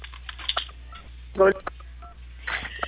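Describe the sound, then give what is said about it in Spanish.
A loud burst of telephone keypad tones sounds briefly in the middle over a narrow, muffled phone line, with faint speech-like murmurs before and after. “Estimada, le escucho un poco entrecortado, ahí como si estuvieran presionando teclas del teléfono.”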